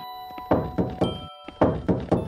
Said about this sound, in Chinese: 萧剑南正要继续开锁，突然响起了敲门声。